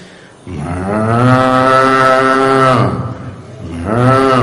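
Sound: cow mooing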